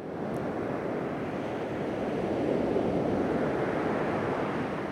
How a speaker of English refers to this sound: the perfect time to come and stroll along this very dramatic black sand beach, paying close attention to the waves that are breaking, of course, on the shore. You wouldn't want to get much closer than I am at the moment, and that is for certain.